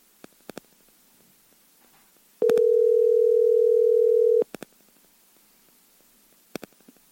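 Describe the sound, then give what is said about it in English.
A single two-second burst of the ringback tone of an outgoing phone call to the executive producer of the Mike Calta Show on 102.5 The Bone, a steady electronic hum, framed by faint clicks and taps before and after in an otherwise quiet line. “I told him I was calling, so let's see if he picks up.”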